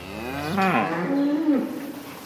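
Dairy cows mooing on a farm with 99 cows to milk: a couple of long, low, wavering moos follow one another closely, loud, with no talking and a faint steady background hum.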